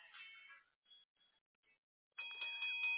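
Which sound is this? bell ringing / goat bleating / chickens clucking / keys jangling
bell ringing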